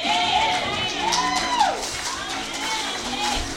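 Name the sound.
audience applause and cheering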